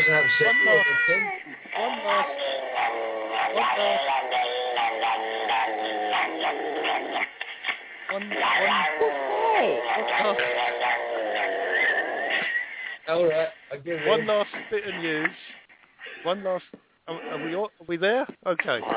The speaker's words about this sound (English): Who done that? It's not me. What's going on there? Yeah. That's a very, very upset cat.